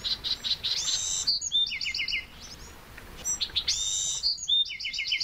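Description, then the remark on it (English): A Bewick's wren gives a short buzzy call, then launches into bright, rapid trilling song phrases repeated several times, clear over a soft steady hiss of background noise, among cacti and wildflowers in the rain. “A Buick's wren buzzes, then breaks into exuberant song.”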